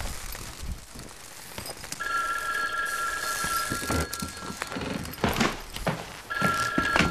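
A telephone rings with a steady, high electronic tone in two bursts, a long ring followed by a shorter one after a pause, set against a dull, rumbling background with no one speaking.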